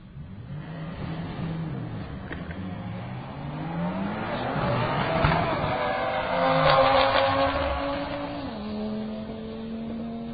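Two cars, a red one and a white one, launch and accelerate hard in a Limited Street class second qualifying drag race run, engines rising and shifting through gears in sweeping pitch climbs, loud, with a brief tire squeal and no talking. One car is a 2016 Volkswagen Golf R.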